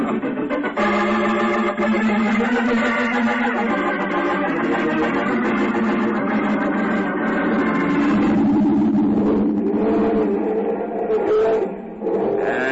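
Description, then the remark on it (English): A truck engine drones steadily and loudly, then revs higher partway through, its pitch climbing and straining before dipping briefly near the end, as the truck heads back to town for another load of beavers. No one speaks. “So let's get back in the truck and head back to town for another load of eager beavers.”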